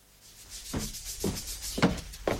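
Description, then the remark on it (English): Sanding down a small bump in plaster: a steady gritty hiss broken by four rough scraping strokes at an uneven pace, moderately loud, with no voices. “I was just sanding down this little bump in the plaster.”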